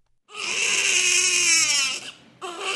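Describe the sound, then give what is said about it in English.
A newborn baby cries loudly at the Malalai Hospital in Kabul, Afghanistan, one long sustained wail lasting nearly two seconds, a brief catch of breath, then another cry beginning. “There's no chance that people will forget this newborn or any other at the Malalai Hospital here in Kabul. Not because of their loud cries.”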